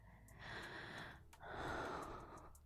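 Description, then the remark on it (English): Two long, breathy airflow sounds, one after the other with a brief pause between, like a slow inhale followed by a fuller exhale, made while relaxing. Soft and intimate, no talking. “Listen to the sounds of my breathing.”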